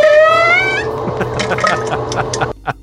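A recorded fart from someone with a stomach bug that starts as a tonal, musical squeak with a wavering, slightly rising pitch, then breaks into wet, sputtering bursts and finishes with one short final splutter after a brief pause.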